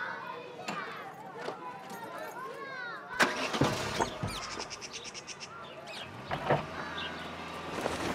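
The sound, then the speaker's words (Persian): A doctor's car at the door: its engine cranks and catches partway through, then settles into a steady low idle, with birds chirping and muffled voices in the background. “حالا چرا دم در؟ بیارش تو. آره بیارش تو.”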